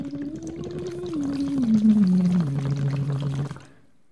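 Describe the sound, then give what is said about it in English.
A single sustained, wavering sung tone from a singing lesson, the voice muffled through water, sliding slowly downward in pitch, with a continuous bubbly, gurgling wash beneath it before it cuts off. “I can't really hear myself very well because I'm being muffled through water.”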